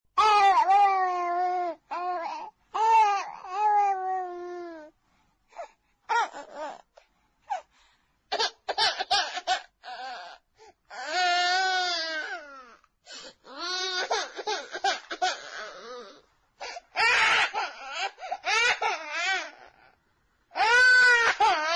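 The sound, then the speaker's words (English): A child cries and wails in repeated bursts, the high, wavering sobs broken by short pauses and catching breaths, with no other voices or sounds around it. “Which sound is more disturbing, the crying child or the total absence of footsteps from anyone coming to help?”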